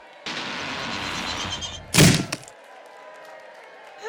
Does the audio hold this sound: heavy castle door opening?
yes